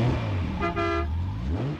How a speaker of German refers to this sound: Naja, so ein Sportwagen kann ganz schön röhren. Aber auch mit so einem Flitzer kann man Musik machen. Aber wie? Da gibt es zum Beispiel eine Hupe.